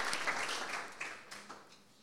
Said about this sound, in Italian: Vogliamo fare un applauso a Gesù?